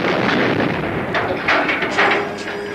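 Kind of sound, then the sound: sound effect, explosion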